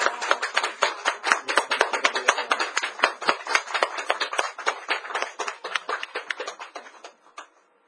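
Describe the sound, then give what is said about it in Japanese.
A church audience applauds together in praise of Jesus, a dense, steady patter of many hands clapping at once for several seconds before tapering off into a few final claps and silence. “このイエス様を褒めたたえて拍手したいと思います。”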